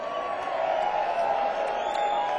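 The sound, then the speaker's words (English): A concert crowd at the Christmas Jam in Asheville cheers for a musician in a steady, dense roar that holds at an even level throughout, with a few brief high whoops rising out of the wash. “Let's hear it for him, y'all.”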